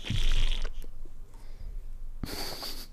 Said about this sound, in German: Also ich riech's, aber. Und es blubbert auch so komisch.